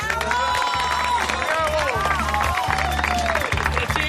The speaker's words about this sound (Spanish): y eso ha sido en Mérida, en el Teatro Romano de Mérida y en el Festival de Teatro Clásico de Mérida, así que creo que el primer aplauso es para el festival y para el pueblo extremeño.